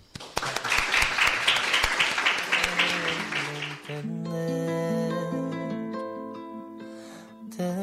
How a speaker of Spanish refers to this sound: Y nada, muchas gracias y otro fuerte aplauso por esta gran actuación.